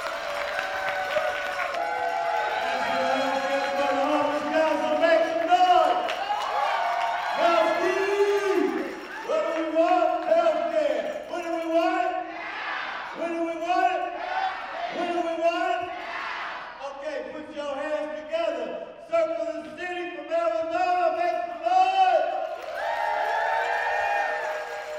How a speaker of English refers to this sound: The crowd, many of whom have been waving handbells as they whoop and cheer for the other speakers, goes quiet.